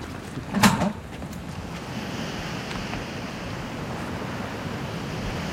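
Waves wash steadily onto a beach in a continuous rushing roar, with a brief louder surge near the start and some wind buffeting the microphone; no one speaks.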